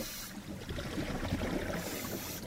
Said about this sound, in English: Diving is mostly a visual experience. The only sound down there is the bubbles of your breathing as you exhale.